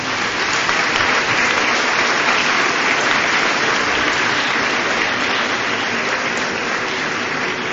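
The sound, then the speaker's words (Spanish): Sustained audience applause at a festival-queen ceremony in Benicarló, a dense, steady wash of many hands clapping at an even loudness throughout, with no voices standing out above it. “Un bell aplaudiment.”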